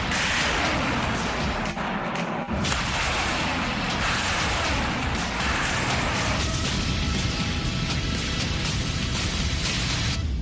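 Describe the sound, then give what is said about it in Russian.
An Uragan multiple rocket launcher crew of the Western Military District fires on camouflaged Ukrainian Armed Forces positions, a loud, continuous roaring blast of rockets launching one after another, with a brief break early on before the rushing roar resumes and carries through. “Расчет реактивных систем залпового огня «Ураган» Западного военного округа. Они нанесли удар по замаскированным позициям ВСУ”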